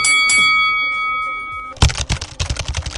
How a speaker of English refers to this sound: All right, let's get started. Somebody ring that bell.